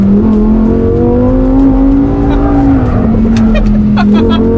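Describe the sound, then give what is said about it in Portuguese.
A sports car with the same engine as the Audi R8 roars loud at high, steady revs, its pitch dipping slightly mid-way, while the tires squeal and scrub as the car's rear slides out. “Acabei de sair de traseira. Fantástico!”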